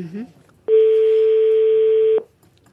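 A single long burst of a telephone ringing tone on an outgoing call, a steady, clear hum lasting about a second and a half before cutting off, with faint murmuring just before it.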